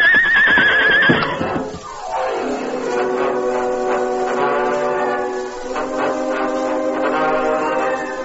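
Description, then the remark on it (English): Scout, Tonto's paint horse in The Lone Ranger, whinnies loudly and shrilly for about a second as it stumbles on a treacherous spot of broken, pitted ground and falls. A sharp downward-sliding sound follows, giving way to a steady, sustained swell of tones. “Tonto guided his paint horse skillfully, but there was a small treacherous spot he failed to see.”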